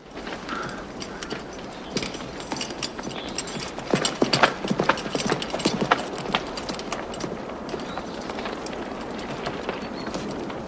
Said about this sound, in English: Leaving his men on horseback, he canters off through the trees to a clear path on which to duel.